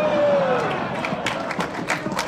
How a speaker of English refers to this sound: Why are you clapping at that?